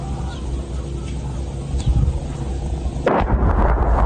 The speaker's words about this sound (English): That's not a plane, that's a mortar strike.